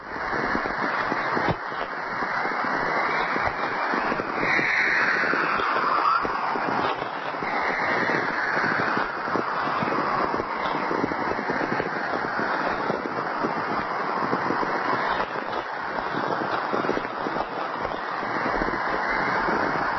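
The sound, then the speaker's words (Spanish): Aurora borealis radio emissions recorded in Manitoba: a steady, dense static hiss runs throughout, with faint gliding whistles and chirping tones rising and falling over it, most noticeable early on. “Es el silbido, los cánticos de una aurora boreal.”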